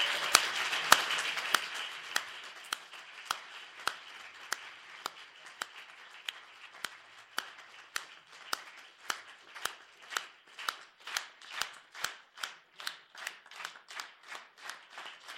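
An audience at a meeting applauds to thank the people of Sopron for agreeing to host the next meeting, the dense clapping gradually settling into steady, rhythmic unison claps that continue evenly and slightly quicken toward the end, with no talking over it.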